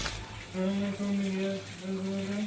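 Steady running water hisses from a shower, while a voice hums sustained tones over it in a few long phrases.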